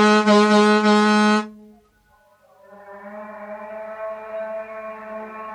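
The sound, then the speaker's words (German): A ship's horn toots twice, sounded to call a young boatman back on board: a loud, bright, low-pitched blast that cuts off after a second and a half, then after a short gap a softer, steadier horn tone that holds to the end. “Ich muss an Bord, die tuten schon nach mir.”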